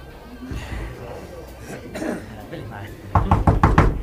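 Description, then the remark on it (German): A quick series of four or five firm knocks on the wooden office door of a producer, fairly loud, following a stretch of quiet with faint shuffling. “Kurze Zeit später klopften sie an die Bürotür der Produzentin.”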